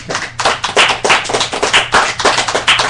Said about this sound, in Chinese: 所以各位，经过了一年半载，这本书终于结束了，为自己鼓鼓掌吧。